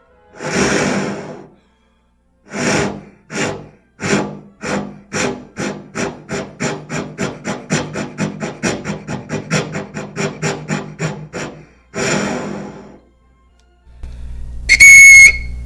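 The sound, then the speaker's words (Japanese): A tuba mimics a steam train: slow, breathy chuffs that speed up into a rapid, steady rhythm, then slow again before a shrill, high whistle blast at the end. “汽車です ね。”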